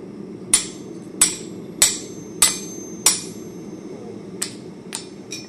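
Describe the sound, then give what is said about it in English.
Five loud, ringing hammer blows on hot steel, a once rusty railroad tie being forged into a bottle opener, land in a steady rhythm, then after a short pause three lighter taps follow, all over a low, continuous rumble. “With the last blow of his hammer,”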